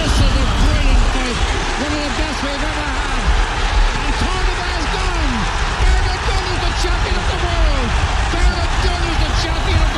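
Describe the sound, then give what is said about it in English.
A huge crowd roars and cheers nonstop as Bernard Dunn becomes a boxing world champion in March 2009, a dense wall of many shouting voices with rising and falling yells, loud and sustained for the whole stretch. “Did you hear the noise of the crowd?”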